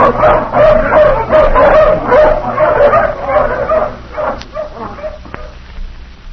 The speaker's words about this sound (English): All ready, men? All right, let the hounds off the leash.